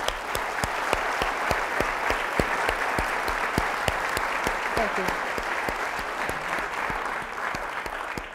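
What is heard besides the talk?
audience applause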